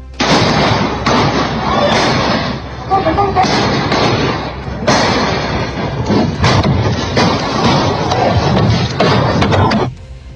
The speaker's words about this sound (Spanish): Ni la Fiscalía ni la Brigada de Homicidios han precisado la cantidad exacta de disparos registrados en la cancha. Sin embargo, según testigos y vecinos del sector, se habrían escuchado más de 15 detonaciones. Escuchemos parte de ese registro.